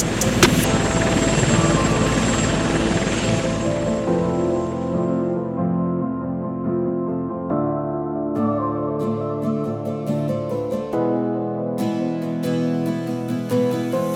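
A helicopter's steady, loud rotor roar fills the opening seconds, then fades as sustained musical tones and rhythmic beats take over.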